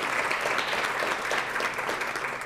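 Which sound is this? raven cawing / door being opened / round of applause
round of applause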